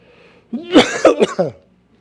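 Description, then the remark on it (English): A person coughs and clears their throat in a quick cluster of rough, raspy bursts lasting about a second, with quiet before and after. “All right, I tried to cough drop.”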